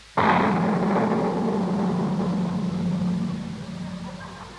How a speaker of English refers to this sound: What in the world did you put in that cannon? It was just sort of a giant firecracker, Miss Brooks.